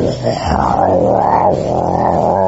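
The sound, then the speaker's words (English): A person vocally imitates heavy rain pouring down like water from large pots, a sustained, loud, growling rumble like an elephant's roar that swells and dips in pitch for a couple of seconds, with no other sounds. “Like this, you know, like roaring of an elephant.”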